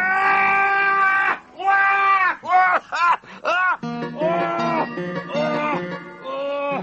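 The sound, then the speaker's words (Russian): A stout, strong man squeals and shrieks loudly in the middle of the night in a string of long, wavering cries, the pitch rising and falling, with a few short yelps in between. The cries are unbroken by words. “Среди ночи Сэма разбудил страшный визг Билла.”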